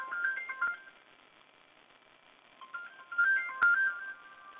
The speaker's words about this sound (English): And, oh, my goodness, we just keep getting phone calls.